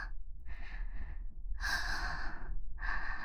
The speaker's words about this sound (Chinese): 来，宝宝，满头大汗呢，就像刚从水里捞出来似的，累成这样了吗？苦苦喘气。